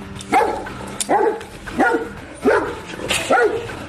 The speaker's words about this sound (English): It's a long driveway. Oh no. Oh hell. This is a very angry dog.